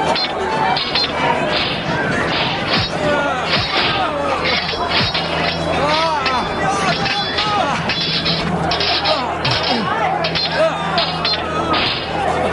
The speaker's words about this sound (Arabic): هيا، حطموا باب البيت.